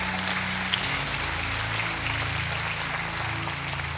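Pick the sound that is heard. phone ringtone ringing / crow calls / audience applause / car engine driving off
audience applause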